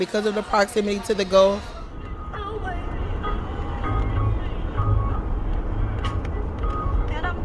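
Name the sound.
car driving on highway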